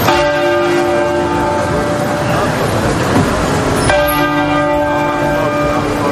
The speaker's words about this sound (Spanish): Además, han sonado las campanas en las principales iglesias de la capital.